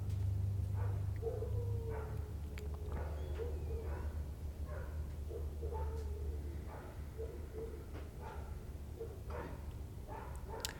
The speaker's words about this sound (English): And so maybe you can hear those dogs barking in the background in this meditation space that we come to. At least in my world here, there's always these external noises, and they become much more acute, much more able to be heard